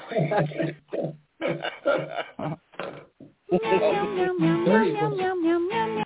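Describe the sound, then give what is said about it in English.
A sick-sounding cat gives a string of short, raspy, strained meows, then a long wavering yowl, all loud over a thin, phone-like line. “Don't you want to kill that cat? That's a sick pussy right there.”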